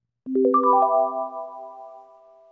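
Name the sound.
bells ringing ding dong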